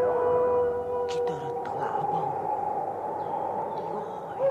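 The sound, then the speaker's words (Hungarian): Wolves howling: several long, overlapping wavering tones that hold steady throughout, fairly loud, with a few brief sharp clicks and rustles near the start. “Hűha, jönnek a farkasok!”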